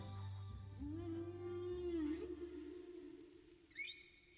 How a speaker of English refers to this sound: They're amazing creatures, whales, Moby.